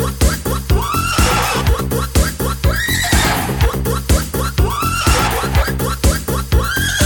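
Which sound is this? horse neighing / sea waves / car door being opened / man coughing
horse neighing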